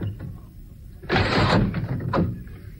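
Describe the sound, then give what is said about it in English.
A lightweight, compact Westinghouse air conditioner scrapes and slides into its window mounting bracket with a broad, grinding rush lasting about a second, ending in a soft bump. Fairly loud, with no talking. “After attaching the mounting bracket, which takes only minutes, it's a cinch to install.”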